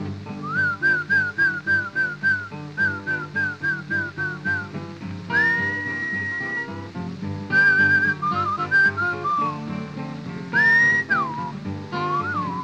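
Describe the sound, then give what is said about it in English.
A person whistles to call a horse, a lively, repeated tune of short rapid notes with a few long rising slides, clear, over steady background music. “You must whistle when you want your horse to come to you. Something kind of like this.”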